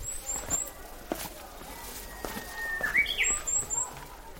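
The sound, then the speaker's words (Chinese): Birds chirp pleasantly in short bursts of high, quick tweets near the start and again toward the end, with a rising whistled call between them over soft outdoor rustling and footsteps, on a mountainside covered with red flowers and green grass. “悦耳的鸟叫声，漫山遍野的红花绿草”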